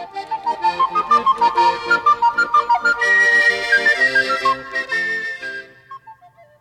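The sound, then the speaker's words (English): A cheerful tune is whistled by a farmer walking down the road, in a quick run of short notes that rise and fall, played over a steady rhythmic musical backing. Nobody speaks, and the melody fades toward the end. “He was whistling a tune.”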